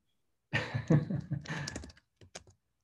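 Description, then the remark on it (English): A rapid burst of computer keyboard typing as an Instagram handle is typed, a dense clatter of keystrokes for about a second and a half, then a few scattered final key taps before it stops. “All right, so I'm typing at Can We.”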